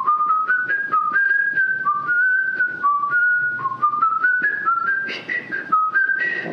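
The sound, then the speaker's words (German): Someone whistles a steady, bouncing melody, stepping through short repeated notes in a quick rhythm, climbing gradually and ending a little breathier and louder, with no talking. “Es ist aus der Halle des Bergkönigs, ne? Das ist das Motiv von Edvard Grieg.”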